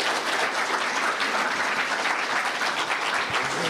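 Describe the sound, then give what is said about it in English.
A crowd claps steadily for a couple after they shared, a dense wash of many hands applauding together at a fairly loud, even level throughout, with no voices rising above it. “Can we give them a round of applause for sharing?”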